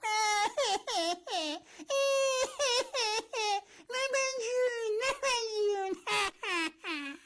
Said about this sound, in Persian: این بچه لیز خورد و دراز به دراز زانوش با کف سالن سینما برخورد کرد و بعد جوری دردش گرفت، شروع کرد به گریه کردن.